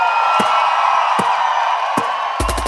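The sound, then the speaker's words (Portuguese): A loud, steady crowd roar with shouting, broken by a few sharp claps and a quick burst of rapid clapping at the end. “Bate palma e dá um grito, você tá doido aí?”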